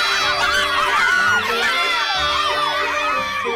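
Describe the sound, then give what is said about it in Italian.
A classroom of children erupts in loud, sustained cheering of approval, many high voices shouting and whooping together without pause for a few seconds. “Tutta la classe esplose in un chiassoso urlo di approvazione.”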